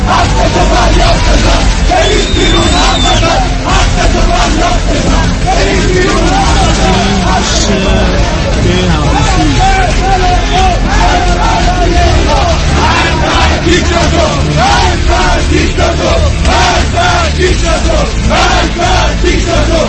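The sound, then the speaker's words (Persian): A large crowd of protesters in Ahvaz chants slogans in unison, 'the nation begs while the master plays God', loud and continuous, with many voices shouting together over steady street noise and background hubbub. “ملت گدایی میکنه، آقا خدایی میکنه، مردم اهواز فریاد زدن.”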